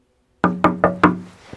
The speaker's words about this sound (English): Chapter 1, A Knock on the Door.